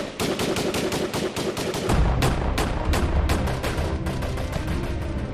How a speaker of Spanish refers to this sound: Cuando los agentes llegaron, Sabine estaba trincherada en la entrada principal y hubo un intercambio de disparos.